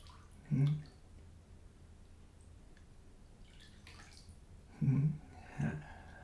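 Water is poured over a person in a bubble bath and splashes in three short bursts, one at the start and two close together near the end, with quiet background hiss between them.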